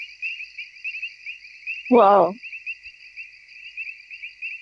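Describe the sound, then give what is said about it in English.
A steady, unbroken chorus of frogs and insects trills from a creek bed in a forest, high-pitched and constant throughout; a man's voice briefly exclaims once partway through. “Frogs and insects fill a nearby creek bed.”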